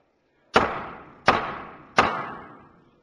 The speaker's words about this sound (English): The chair just felt like banging the gavel.